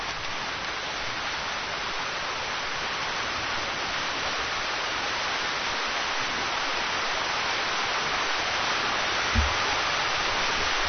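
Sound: rain falling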